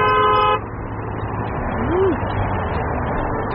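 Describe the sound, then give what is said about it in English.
A car horn honks loudly in one short blast at a busy intersection, then gives way to a steady wash of traffic noise from the busy street. “I decided to put on my bucket list, hold up a sign that said honk if you love someone at a busy intersection.”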